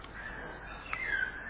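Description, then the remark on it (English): Faint morning birds calling outside, a thin whistled note running steadily, then a brief sharper chirp and a sliding call near the end, over a soft hiss. “Let's tell the manager, can you go shoot those birds, please, those morning birds.”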